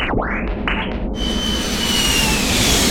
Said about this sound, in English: Look at that dickhead crossing the bus lane on a jet bike.